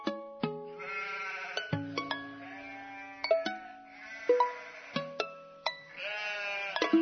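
Several sheep bleat in quick succession, their wavering, overlapping cries fairly loud, like a small flock calling all at once with no talking.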